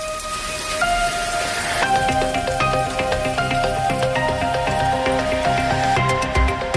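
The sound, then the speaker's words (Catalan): A steady, even wash of rain hiss fills the background throughout, with sustained musical tones playing over it and no one speaking. “La pluja, la tan esperada pluja que ha estat i és protagonista del dia.”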